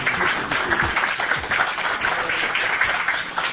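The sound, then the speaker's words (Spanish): An audience at the Fonoplatea, including sixth-grade children from Colegio San Cáteres, applauds steadily as an applause meter, a dense, continuous patter of many hands clapping at once with no pauses, fairly loud throughout and with no voices standing out. “Si no habían entendido nada, abucheaban, han aplaudido, sé que nos vamos bastante conformes con el resultado.”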